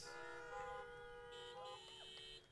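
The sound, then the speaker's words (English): Several car horns honk at once, their long, overlapping blasts blending into a steady chorus that rises and shifts in pitch for a couple of seconds, with no one speaking. “Come on, honk your horn for Jesus.”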